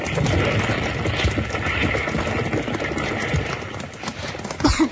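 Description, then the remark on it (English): Hooves clatter busily over a dense, noisy background, with several horses moving at once as they are freed from a burning livery stable, and a short horse whinny breaking through near the end. “Bill and Jingles rush in to save the horses, and just as they get them loose”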